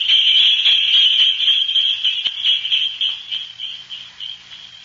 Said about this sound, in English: Well, that was a cinch. Jingle bells and the good old wintertime.